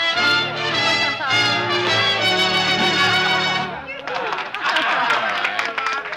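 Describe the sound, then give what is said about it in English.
In a roadhouse on a lonely stretch of highway on the outskirts of a large Midwestern city, a band finishes a set with a sustained, harmonic closing passage for a dozen or more dancing couples, then stops and gives way to a few seconds of scattered, moderately loud applause mixed with crowd chatter. “After the scattered applause, the dancers drift back toward their table.”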